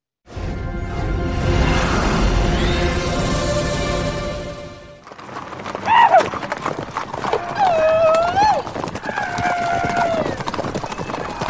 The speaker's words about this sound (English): The thundering hooves of many horses.